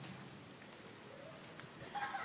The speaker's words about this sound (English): Hello there. You've just joined me in time to hear the cicadas.